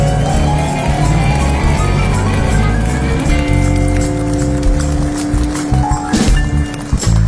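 Loud, dense clapping from a large crowd, sustained and close, with music playing underneath and a few sharper percussive hits toward the end.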